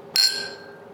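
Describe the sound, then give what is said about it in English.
A single bright clink of glasses touching in a toast at the Happel gin distillery, a sharp high-pitched strike followed by a clear ringing tone that slowly fades out, with no talking. “So, cheers. Cheers.”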